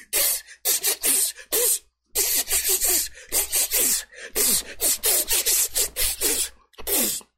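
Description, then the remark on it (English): A person imitates a snake with a rapid string of sharp, breathy hisses. The bright, sibilant bursts repeat in an uneven rhythm, with a couple of brief pauses, and no talking. “Could that motherfucker sound like a snake?”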